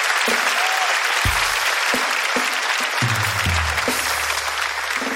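An audience applauds steadily, a dense wash of overlapping claps holding loud throughout, with a few low thumps and a brief low hum beneath the clapping.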